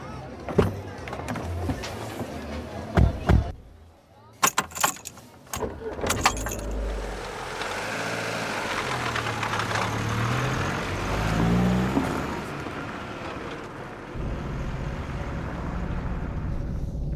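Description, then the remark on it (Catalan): Keys jangle and clatter in a few sharp bursts, then a car engine starts and settles into a steady drive toward Carrer Colón in the town centre, its low rumble continuing to the end with faint voices mixed in. “Podem anar amb el meu cotxe si voleu.”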